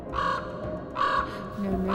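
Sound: raven cawing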